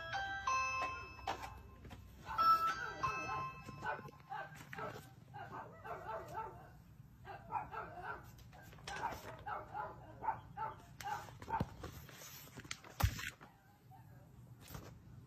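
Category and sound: animal, doorbell ringing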